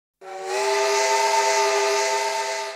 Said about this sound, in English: A train.